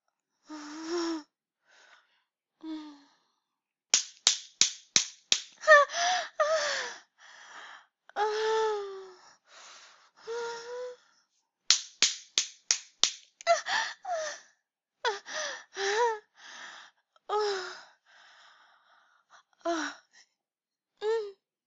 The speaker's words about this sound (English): Oh, thank you for slapping both nipples.